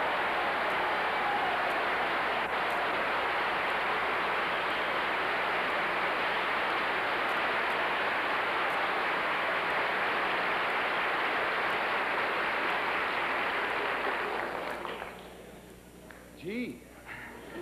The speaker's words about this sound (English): Thank you very much for your wonderful applause. I might say that it has almost amounted to an ovation, and I'm very proud that you think enough of me and of our panel members to give me that kind of a reception when the show first starts.